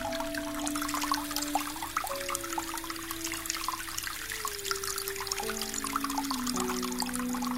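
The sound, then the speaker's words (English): Water runs and trickles steadily throughout as a basement is flooded, a continuous splashing pour with a faint hum of pipes beneath it; no voices, just the constant flow at moderate volume. “Mum had grown tired, so I tried flooding the basement.”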